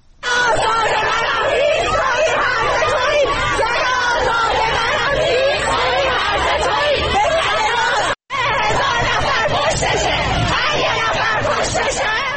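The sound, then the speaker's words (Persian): A large crowd of protesters against the Islamic Republic in Najafabad, Isfahan, Iran, shouts loud, continuous slogans such as "zan-e azad manam" and "har ye nafar koshtashe, hezar nafar poshtashe" on Sunday 18 Dey. The voices merge into a dense roar of rhythmic yelling that breaks off briefly before resuming just as loudly. “معترضان در این جمع شعارهای هیز تویی، هرز تویی، زن آزاد منم و هر یه نفر کشتشه، هزار نفر پشتشه سر می دهند.”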